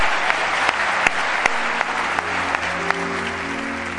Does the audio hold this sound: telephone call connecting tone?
no